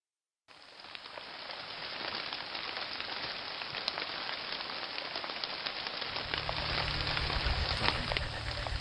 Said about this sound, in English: The heavy rain splattered all over my armor, and rivulets of water slicked all the footholds.